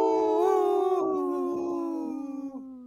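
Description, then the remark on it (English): A single long, wavering wolf howl, loud, holding a steady tone for about three seconds before slowly sliding downward in pitch and fading out at the end. “This portion of the show is supported by Howling for Wolves, protecting wolves for future generations. Howl!”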